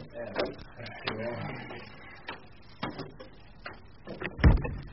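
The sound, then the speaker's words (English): A door is pushed open by someone barging in without knocking, amid a series of sharp clicks and clunks, ending in one louder, heavier thud, with faint muffled voices underneath. “Here, who are you barging in without knocking?”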